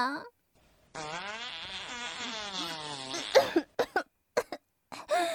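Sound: fart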